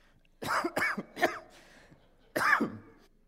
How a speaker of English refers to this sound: I'm going to cough.